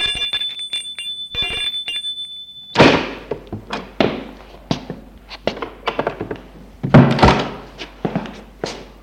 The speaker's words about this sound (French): La sœur de Frédéric Leclerc, Odile, habite dans l'hôtel de ses parents, mais où l'on a aménagé un appartement pour elle. Frédéric sonne à sa porte.